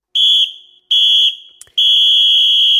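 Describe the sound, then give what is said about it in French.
Three shrill, high-pitched whistle blasts sound with no one talking: two short ones followed by a longer, sustained final blast, like a referee signalling the end of a match. “Et c'est le moment, tout simplement, de se quitter des coups de sifflet de la fin, tout simplement.”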